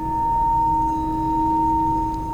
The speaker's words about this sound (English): Let the sound of the singing bowl come towards you. No need to reach out and grasp. Stay centered at the core of your being in the breath. And let the sound just come to you.